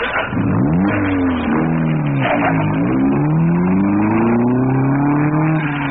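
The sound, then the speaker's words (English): David Brinkley's car engine, outside the NBC building, turns over and revs up, its pitch climbing and dipping through several loud throttle surges before settling into a steady rising drone as it pulls away, with no voices. “David Brinkley speaks first as he gets in his car and says, goodnight, Chet.”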